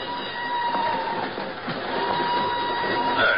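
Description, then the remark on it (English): Steady rumble of a northbound train rolling along the rails out of Lisbon, with a thin metallic whine running through it and occasional clicks and knocks from the wheels, continuous throughout. “An hour later, she's aboard a northbound train rolling out of Lisbon. I'm in the same car, a few seats away.”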